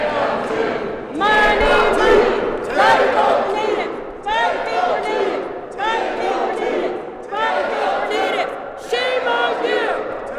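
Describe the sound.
A large crowd of ASRC leaders and supporters chants "10:02" in unison against a woman's competing chant, repeating the short phrase in steady, loud bursts about every one and a half seconds, with voices overlapping and competing throughout.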